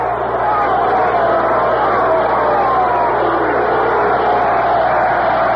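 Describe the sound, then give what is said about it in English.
A crowd of 14,460 at a Washington Senators baseball game in Washington cheers steadily at night, bidding farewell to the team; a loud, dense roar of many voices and shouts sustained throughout without letup, with no single speaker standing out. “We might have had a lot more people there on opening day, but they weren't more demonstrative than the crowd we have tonight.”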